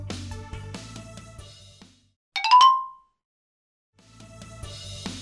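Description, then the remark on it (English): A single bright chime signaling time to turn the page during a read-aloud of the book How Can I Help? by Christine Hood, a clean high ding that sustains and fades smoothly, set between passages of soft background music with a quiet gap around it. “When you hear this sound, it's time to turn the page.”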